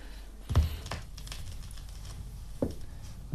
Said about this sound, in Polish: O, trzeszczy coś. No, ale to jest winyl.